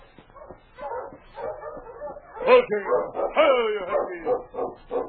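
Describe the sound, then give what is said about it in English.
A sled dog team barks, yips and whines excitedly in a busy jumble as it is halted on a trail about 15 miles out of town, with rising and falling whimpers running through the five seconds without pause. “He halted his team and approached them.”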